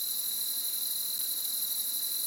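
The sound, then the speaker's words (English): A steady, dense chorus of crickets trilling continuously at a high pitch, with a fainter, lower chirping layered underneath, no voices present. “There's some high end to this, it's not too busy, and there's also kind of that lower cricket chirp as well.”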